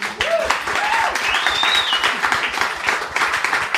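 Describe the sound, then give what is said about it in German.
Steady audience applause for Sonja, a newly arrived guest, fills the whole stretch, a dense crackle of many hands clapping at an even level, with a few whistles rising and falling above it. “Kleiner Applaus für Sonja, bitte.”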